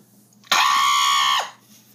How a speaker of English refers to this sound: And now I'm away from my parents, so I can scream as loud as I want. Like, watch this.